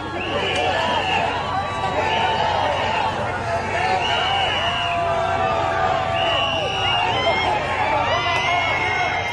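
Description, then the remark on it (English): A crowd of well-wishers along the streets of a motorcade route makes a dense, steady roar of cheering and chatter as the motorcade passes, with recurring high-pitched calls rising above the din every couple of seconds. “Yeah, so here he is now out on the motorcade, and you hear the crowd along the streets, his well-wishers.”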